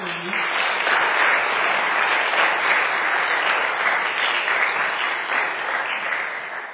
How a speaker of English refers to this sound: So they worked really hard, and so the bell choir, so it's like a round of applause for them again.